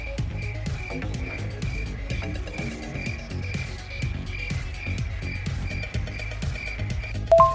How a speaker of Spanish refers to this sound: ¿Se come esa chingadera que está haciendo ese ruido? Son grillos, no chapulines.